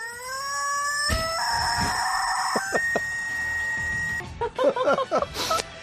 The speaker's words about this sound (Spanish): Sí, esta ama de casa que vamos a escuchar a continuación también, o sea, una ama de casa, coloca su pollo de goma en el tubo de la aspiradora y la pone en funcionamiento.